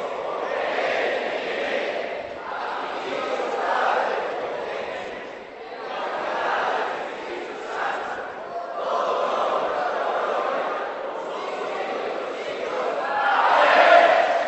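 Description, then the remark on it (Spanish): A crowd of men in an audience shouts together, called on to say the signature of Jesus Christ, in a loud, sustained chant, voices blending into a dense roar with brief dips between phrases and a swell toward the end. “A ver, solo los hombres, vamos a decir la firma de Jesucristo, vamos a decirle, a ver, los hombres, que se oiga, así como gritan en la casa, que se oiga aquí.”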